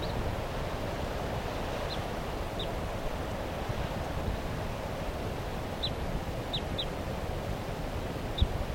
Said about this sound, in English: That bird 377, I think, is still here calling from the treetops just above the car. But I don't see a bird. It may not have wanted to leave without its flockmates. That's the wild bird.